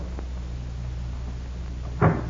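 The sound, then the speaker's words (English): A back door shuts with a single solid thud near the end, preceded by a faint click of it opening, all over a steady low room hum with no voices. “I'll go out my back door.”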